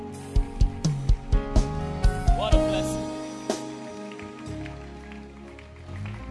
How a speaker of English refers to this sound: Oh, don't stop clapping yet.